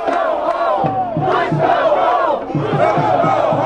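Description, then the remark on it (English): A large crowd of about 700 protesters, gathered across from King's tomb ahead of the president's arrival, shouts and chants together in loud, overlapping voices, with rhythmic bursts of yelling rising and falling over a constant roar. “They shouted and waved signs saying, "Money for jobs, not war," and "Where are the weapons of mass destruction?"”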